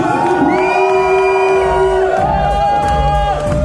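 A large concert crowd cheers and shouts loudly and continuously, with many overlapping voices and sustained whoops blending into a dense, roaring wall of noise.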